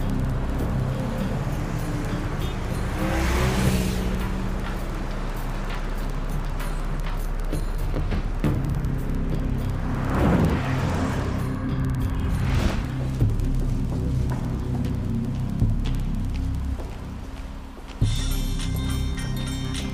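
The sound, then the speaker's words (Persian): Steady low engine rumble and road noise from a car driving into the town of Ramsar, with a few swelling whooshes suggesting passing vehicles, continuous throughout with no clear speech. “ما همین الان وارد رامسر شدم، ماشین و وسایلم تحویل گرفتم.”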